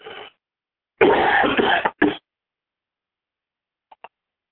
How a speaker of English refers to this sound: Do not be concerned about my coughing. It's called allergies.